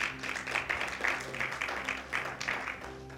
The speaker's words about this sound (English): Give me another round of applause.